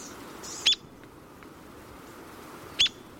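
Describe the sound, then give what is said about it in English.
A small North American woodpecker with a white and brown cheek and heavily marked white underparts gives two short, sharp, high-pitched call notes about two seconds apart, standing out over a steady low background hiss. “These small woodpeckers forage by flying to the base of a tree and then spiraling up the trunk.”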